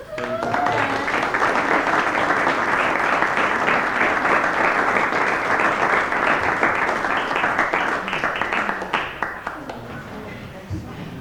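Sustained applause from a large audience, a dense wash of many hands clapping at a steady high level for about ten seconds before thinning out slightly at the end, with faint voices mixed in.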